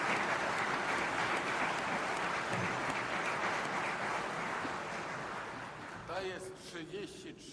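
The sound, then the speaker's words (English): A crowd claps steadily for about six seconds in congratulation of a Polish economic university's ranking among the world's best business schools, a dense, loud wash of applause that fades as a person begins speaking near the end. “And I think this is a grand thing, and I believe we all deserve congratulations and a huge round of applause.”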